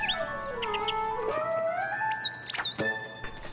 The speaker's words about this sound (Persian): ممنون آقای پرنده. البته که یه چیز خوردنی برات دارم. تو الان با من حرف زدی؟ ولی من زبون گنجشکا رو بلد نیستم. شاید هم تو تنها پرنده ای هستی که حرفشو میفهمم.